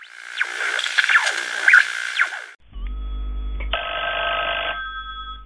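A telephone bell rings loudly in a rapid metallic trill, then gives way to a steady, buzzing electronic ring tone over a low hum, with no voices, in a radio advertisement for telephones from Ikaalisten Parkanon puhelinosakeyhtiö.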